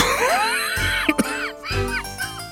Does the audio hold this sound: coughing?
yes